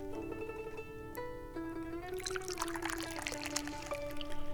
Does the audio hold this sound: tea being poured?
yes